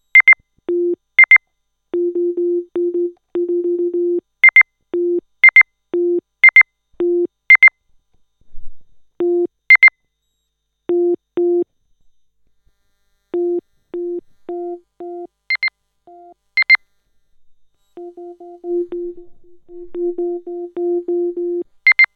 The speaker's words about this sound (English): And I've got an EM pickup coil. So what I'm going to do is mute the microphone and do the same beep thing and show you what that sounds like directly from an EM pickup coil. It's really weird and quite cool.